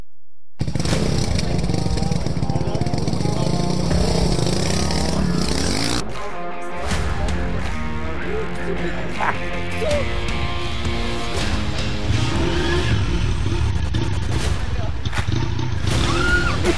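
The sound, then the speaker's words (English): A motorcycle engine revs loudly, its roar rising and falling over about seventeen seconds, with excited voices mixed into the noise. “if you're trying to learn how to ride a bike, you know, a motorcycle, sometimes it doesn't go all that well.”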